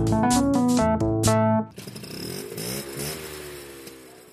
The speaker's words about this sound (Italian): Ascolto a sorpresa. La Vespa.